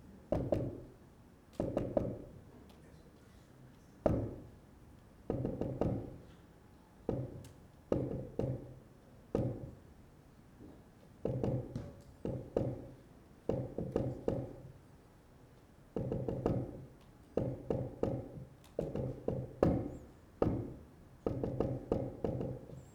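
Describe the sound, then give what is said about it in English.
Repeated metallic tapping on the steel hull of a sunken submarine, made from inside by the trapped crew, grouped into short and long bursts of Morse code asking "Is there any hope?", with brief pauses between groups, continuing steadily over and over with no voices. “thought he heard some tapping on the steel wall of the sunken sub”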